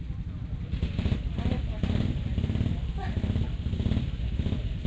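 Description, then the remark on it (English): A motorcycle engine idles in a steady, low rumbling drone that fills the whole stretch, with indistinct voices murmuring underneath. “If you've got your machines running, can you switch them off for me? Because the microphone picks it up.”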